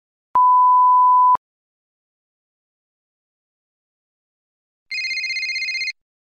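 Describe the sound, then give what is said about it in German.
A steady one-second electronic beep sounds, then after a few seconds of silence a single short, trilling telephone ring follows as a phone call is placed to the Austrian aid organization Team Österreich, clear with no voices. “Sie hören jetzt ein Telefongespräch zu Team Österreich oder TÖ.”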